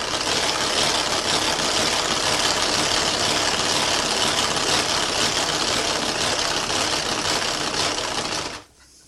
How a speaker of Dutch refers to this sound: Dus nu is dat nog niet helemaal, maar als ik nog verder klop, komt dat helemaal stijf zoals je eiwit opklopt.